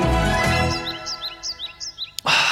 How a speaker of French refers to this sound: Ah, et là, des oiseaux. Bah oui, parce qu'on est en hiver au mois de mai, donc c'est normal, on les entend.